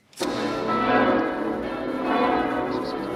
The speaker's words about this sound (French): Ici Lisieux. Ce sont toutes les cloches de Lisieux qui sonnent pour souhaiter la bienvenue aux 90 000 pèlerins, peut-être même aux 100 000 pèlerins, venus de toutes les nations assister à la consécration solennelle de la célèbre basilique de Lisieux